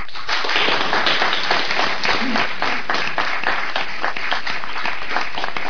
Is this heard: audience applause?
yes